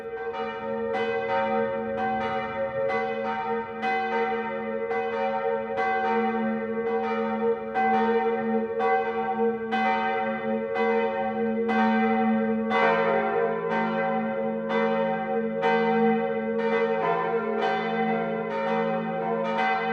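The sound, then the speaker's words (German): Several church bells peal loudly and continuously on Easter to announce that Christ has risen, their strikes overlapping in a steady, rhythmic clang with a rich ringing hum sustained throughout; no voices are heard. “Auch dann erklingen überall im Land lautstark die Kirchenglocken, um dies zu verkünden.”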